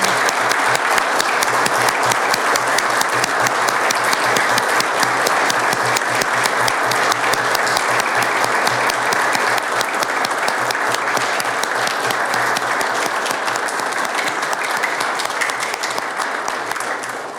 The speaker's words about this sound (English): I would like all of us to give a round of applause for all of his accomplishments.